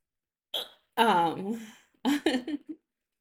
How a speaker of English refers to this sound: Okay. So I'm kind of drunk right now, and I genuinely have the hiccups. And I had like a, I don't know, mental note to myself to record myself the next time that I had hiccups. So this is what I'm currently doing.